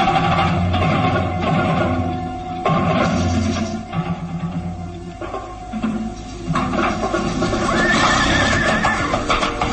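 A horse neighs loudly in a long, wavering whinny as a rider mounts it, followed by snorts and further whinnies, with clip-clopping hooves and shuffling underneath throughout.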